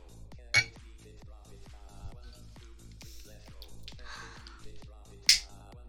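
Glasses clink together in a toast, two bright, sharp chimes several seconds apart, each ringing briefly at a high pitch over a steady, murmuring background.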